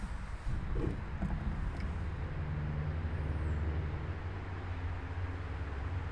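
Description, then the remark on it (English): Steady, dense road traffic rumbles throughout at about 6 p.m. on a Friday evening in London, Ontario, heard from a backyard, with the low drone of cars and heavy vehicles passing and no voices. “on a Friday night, traffic going hard, emergency sirens already ringing, kind of night.”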